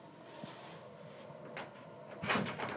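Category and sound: household object, door being opened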